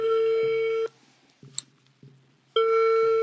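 telephone call ringing tone

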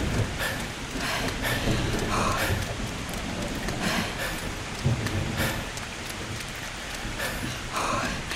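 rainstorm with thunder

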